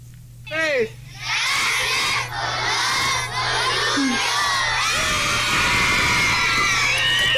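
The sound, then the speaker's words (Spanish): A whole school of 148 children shouts thanks for the swings together in unison, a loud, sustained collective cry filling the space, rising after a brief opening of scattered voices. “Bueno, tenemos aquí un audio donde al final todos los niños dan un grito de agradecimiento por los columpios.”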